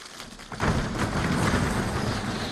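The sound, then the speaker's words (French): The choir Perpetuum Jezreel imitates a rainstorm with body percussion, using only hands and feet: a dense, steady patter of claps and finger snaps swells suddenly into a loud downpour, with low thudding stomps rumbling underneath like thunder. “C'est la chorale Perpetuum Jezreel qui fait ça. Rien qu'avec les mains et les pieds.”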